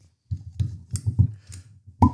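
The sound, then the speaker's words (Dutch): A cork pops from a violin-shaped glass bottle of dessert wine with a sharp, bright burst at the end, after a few muffled low thumps and squeaks as it works loose. “Oh, wat een mooie plop hadden we. Een Stradivarius plop.”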